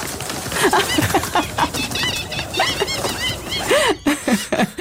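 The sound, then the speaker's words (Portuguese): A crowded flock of pigeons and seagulls in a room, startled by someone clapping, erupts in a constant jumble of squawks, cries and flapping wings, loud, with calls overlapping throughout and no voices. “Olha, super relaxante, numa sala cheia de pombos e gaivotas. Quando alguém bate uma palma.”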